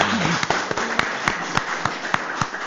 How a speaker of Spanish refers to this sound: Vamos a dar un aplauso.